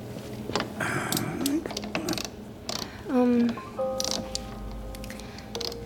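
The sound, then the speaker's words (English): A wrench tightens a loose freezer door in bursts of sharp ratcheting clicks and clanks, with a few high metallic squeaks and creaks, one louder squeal standing out midway. “Oh, hand me that wrench, please. This freezer door keeps coming loose.”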